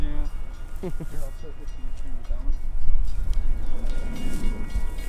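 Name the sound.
train passing by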